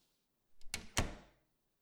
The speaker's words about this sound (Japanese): 扉閉めますね。